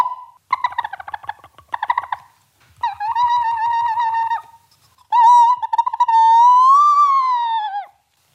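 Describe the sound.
Shrill, whistly bird-call imitation blown on a recorder mouthpiece in a recorder lesson: quick fluttering chirps, then longer wavering squeals that bend upward, loud with brief gaps between phrases.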